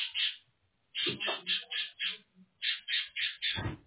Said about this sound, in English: Sorry, your birds are, I don't know what you have there, but you have some excitable birds. Oh, yeah, I'm sorry for that.